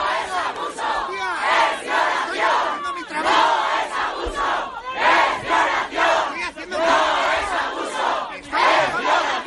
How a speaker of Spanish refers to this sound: Esto es lo que pasaba dentro. Vamos afuera de las puertas del Palacio de Justicia de Navarra, donde se escuchaban estos gritos.